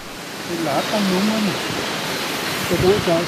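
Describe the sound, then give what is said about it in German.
A mountain stream in a gorge rushes steadily beneath wooden bridges and footbridges, its broad, constant hiss filling the background while a man's voice speaks briefly over the flowing water. “Unter den Brücken und Stegen strömt es. Der Bach rauscht.”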